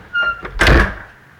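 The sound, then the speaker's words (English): A door swings shut with a brief hinge squeak followed by a solid, fairly loud thud, then a quiet room tone as it settles. “Just close the door and go back to work.”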